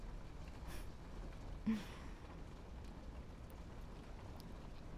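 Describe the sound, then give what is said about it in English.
Steady, dense hiss of heavy rain falling outside, heard faintly and evenly throughout, with one brief soft thump partway through and no voices. “Listen to the rain outside? Yeah, it's really coming down.”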